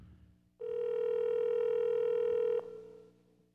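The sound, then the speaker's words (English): A single steady telephone ringback tone sounds for about two seconds over a faint background hum, then cuts off, the kind of ring a caller hears while waiting for someone to pick up. “I hate a nigga beeping. Motherfucker don't take all goddamn day to answer the damn phone.”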